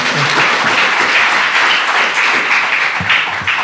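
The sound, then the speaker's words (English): A crowd applauds steadily to welcome a guest speaker at a panel event, a dense, loud wash of many hands clapping that holds even for a few seconds with no one speaking over it. “And I'm going to give you a clap.”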